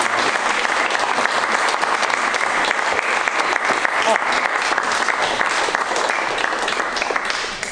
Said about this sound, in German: Sie müssen noch weiter klatschen.